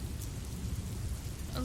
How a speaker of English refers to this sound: I know it's not the hotel we had in mind, but it's better than staying out in the rain.